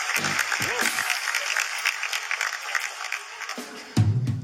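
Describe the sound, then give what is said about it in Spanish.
A crowd claps steadily for several seconds, a dense crackle of many hands, while a voice speaks briefly at the start and again near the end over the applause. “Fuerte bueno, aplauso.”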